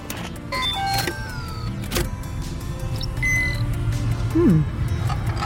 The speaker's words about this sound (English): Just start the engines.